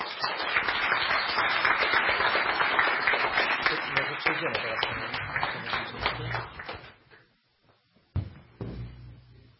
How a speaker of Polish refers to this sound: 16 lat, ja można powiedzieć jako wójt 2,5, ale wcześniej projekty społeczne realizowane wspólnie, więc wielkie brawa dla pani dyrektor za tą służbę.